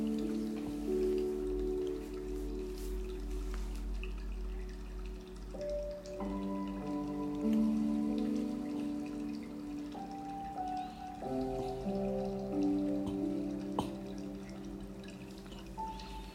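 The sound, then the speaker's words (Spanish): Gentle dripping rain patters steadily beneath soft, sustained music with slowly shifting held notes; the water sound is continuous and calm, with no one speaking. “Bueno, con este sonido de la música y este sonido del agua que relaja, que nos invita a estar en paz en este día de domingo,”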